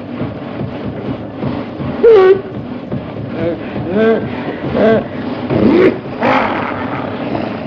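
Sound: car engine sputtering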